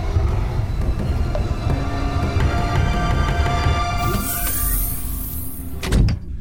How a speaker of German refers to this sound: Leise, Kollegen, hört ihr das? Draußen vor der Tür tut sich was. Ja, du hast recht, die Tür öffnet sich langsam.